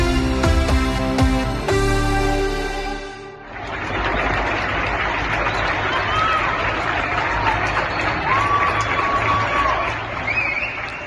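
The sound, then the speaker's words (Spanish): After a few seconds of music, many people on balconies in Spain clap together steadily for health workers during the pandemic, a dense and sustained wash of applause, with occasional whistles rising above it. “Los aplausos a los sanitarios se convirtieron cada tarde y noche en los balcones de España en un símbolo de apoyo y unidad.”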